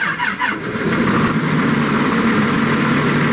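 A red tractor engine idles in Serbia with a steady, rumbling chug, loud and continuous throughout, with no one talking.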